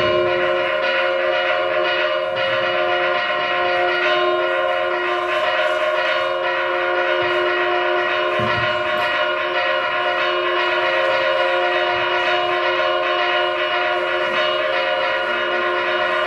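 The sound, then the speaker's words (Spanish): Roman-style church bells, a type found only in northern Spain, are rung by the head bell-ringer in Castile. They ring loudly and continuously, their overlapping metallic tones sustaining into a dense, steady drone throughout, with no voices. “Estas son campanas romanas que las tenemos únicamente en el norte de España, y sobre todo yo creo que Burgos es la provincia que más campanas romanas tiene.”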